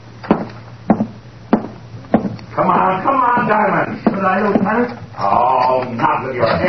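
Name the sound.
knocking on a door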